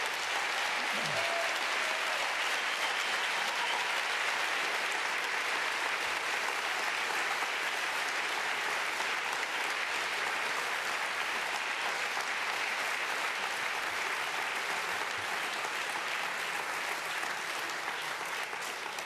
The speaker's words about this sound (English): I think you can tell by the applause that the people really, really liked it. It was really awesome.